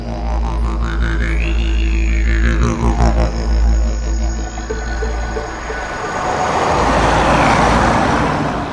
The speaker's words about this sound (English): Tell me about that noise we can hear. It's kind of like a constant swishing of cars. Yeah, what noise? Swishing and all that, you know.